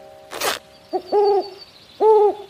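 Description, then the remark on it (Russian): A brief rustling burst, then an owl sitting in an old hat in a tree hollow gives two clear hoots, each about half a second long with a pause between, and no voices. “Старую папину шляпу и в ней сова.”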